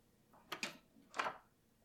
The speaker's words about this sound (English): This is my house. let me open the door.